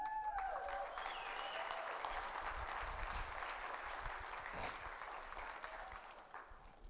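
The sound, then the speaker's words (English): An audience applauds and cheers as representatives of a generation are invited up to give their perspective on following Christ: a dense wash of clapping with scattered cheers and whoops rising above it, staying loud throughout before easing slightly at the end. “If you're part of this generation, let's cheer for them.”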